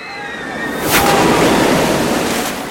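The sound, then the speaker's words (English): A loud splashdown bursts in as a clown-themed water ride hits bottom after a big drop, followed by a steady roaring wash of water spraying and raining down for a couple of seconds. “It's raining hot dog water! That's a really big drop.”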